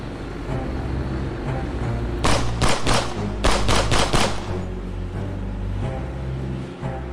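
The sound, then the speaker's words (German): Engines of pirates' speedboats roar steadily throughout as the boats race toward a tanker just after 7:30 pm in the dark near the equator, with a loud burst of rapid gunfire cutting through in the middle before the engine drone carries on alone. “Plötzlich rasen ein paar Speedboote direkt auf die Bitu River zu.”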